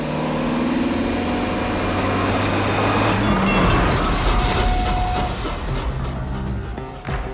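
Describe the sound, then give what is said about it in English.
A loud rush of a high-speed train roaring past a railroad crossing seconds after a Buick car speeds over it, with revving engine tones and a broad whooshing swell that peaks midway and then recedes, no voices. “It's a race against time as the Buick launches itself over the railroad crossing just seconds before the high-speed train sails past behind them, ensuring their escape.”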